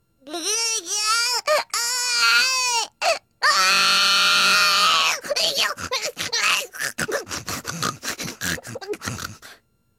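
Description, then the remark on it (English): A baby wails loudly in long, rising cries, then breaks into a rapid string of short, choppy pig-like grunts that sputter on until near the end; the creature being carried turns out to be a pig. “When it grunted again, so violently that she looked down into its face in some alarm.”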